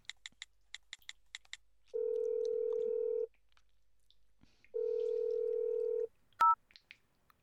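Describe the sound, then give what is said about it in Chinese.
A quick run of about eight short, clear telephone keypad dialing beeps as someone places a phone call, then two long, steady ringing tones with a pause between, ending in a brief click and beep as the call connects. “我要打电话给你爸爸了。”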